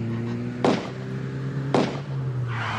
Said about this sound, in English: Here's the car! Here's the car, Temple! They've spotted us.